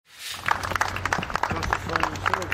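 A small crowd breaks into steady, scattered applause as a man found not guilty of murder leaves a courtroom in New Brunswick, a free man. Many overlapping claps keep up a fairly loud, even patter, with murmuring voices and a low hum underneath.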